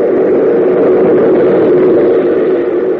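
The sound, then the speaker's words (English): A subway train rumbles by in a loud, steady roar, with a low droning hum running through it and no change in volume over the few seconds. No voices. “Oh, subway train. Runs right outside this tunnel, I guess.”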